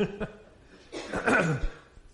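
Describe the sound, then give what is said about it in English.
A speaker clears their throat before leading a prayer, a short rough, gravelly rasp lasting under a second, preceded by a couple of faint vocal sounds and followed by quiet. “I've got to clear my throat, too.”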